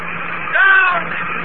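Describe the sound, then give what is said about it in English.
A steady, hissing roar of a rocket ship descending over a landing field with jet brakes firing, swelling briefly into a louder whining blast midway, muffled like an old broadcast recording. “Her jet brakes, melting fire. She's right over the field now. She's coming down.”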